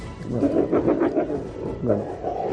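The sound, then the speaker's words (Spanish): Several Iberian wolves snarl and growl, a rough, continuous rumble of overlapping growls that dips briefly before rising again, as other wolves surround one eating a piece of meat on the ground and try to take it, at the Iberian wolf centre in Robledo de Sanabria. “Dakota tiene un trozo de carne que está comiéndose en el suelo y otros lobos la rodean intentando quitárselo”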